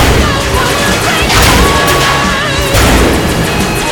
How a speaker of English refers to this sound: The blasts traverse every obstacle and explode on impact with the fighters. The landing craft. The invading troops that have made it to the ground.